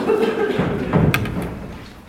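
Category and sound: household object, door being closed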